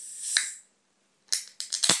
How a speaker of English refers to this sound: It's already fizzing inside the can, you know. It's there, you go. Right, so we open the can of Coke. I think this is safe.